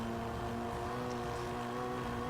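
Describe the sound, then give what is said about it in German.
A steady, droning car engine from a video game, played at low volume in a studio, hums at a constant pitch throughout, fairly quiet and even, with no voices over it. “Wir hören ja jetzt das noch, Spiel noch nicht so laut, damit es hier keine Rückkopplung im Studio gibt.”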